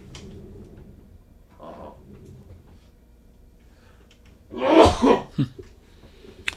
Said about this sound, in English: Yes. Had to take time out for a little sneeze there. Didn't want to contaminate the listeners.